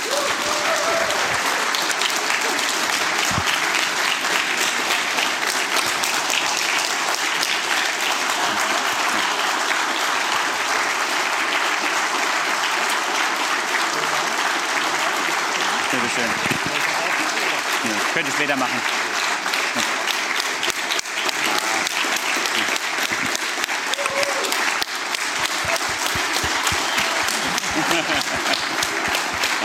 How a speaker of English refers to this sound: And please give everybody like a standing applause for those three amazing guys.